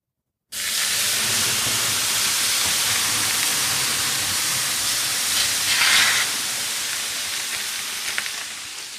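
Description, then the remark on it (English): A loud, steady hiss of lemon-scented water ladled onto hot sauna stones at Hotbox starts abruptly and roars for several seconds, with a brief surge partway through before slowly easing off. No one speaks. “So in my right hand, I have a ladle of, I think they said it was lemon juice.”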